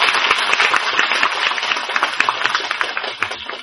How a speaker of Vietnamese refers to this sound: Chúng ta phải có một tràng pháo tay 8 tháng cho mình.